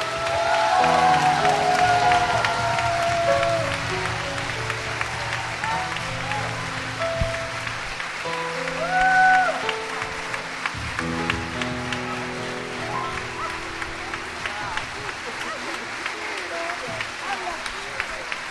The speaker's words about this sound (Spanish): Todos los aplausos